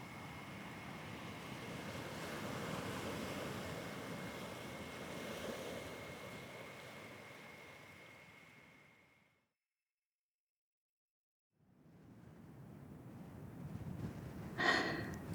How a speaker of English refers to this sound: I am eased back into the present as the wind begins to pick up around me. Sand buffets my face and the voices that dance at the very edge of my hearing grow louder with the breeze.